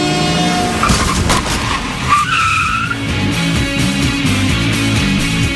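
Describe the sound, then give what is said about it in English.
Bus tires skid loudly, a sustained rubbery screech with rising squealing tones over a heavy engine rumble, lasting several seconds with no voices. “Yeah, look out for that bus, Devin.”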